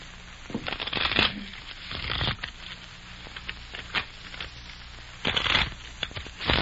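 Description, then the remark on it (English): A deck of playing cards being shuffled, with several quick riffling bursts of papery flutter separated by pauses and a few soft taps and clicks, moderately loud against a quiet background. “Hey, I thought I told you not to shuffle. Oh, shucks, I can't make them stay together, so then...”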